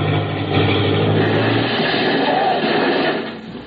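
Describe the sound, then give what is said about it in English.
A loud, steady airplane engine roars at high power, a thick continuous drone with a low throbbing hum underneath early on, holding strong before easing slightly at the very end. “Hey, what you trying to do, blasting that engine?”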